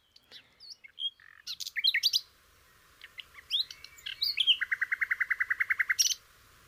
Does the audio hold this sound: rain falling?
no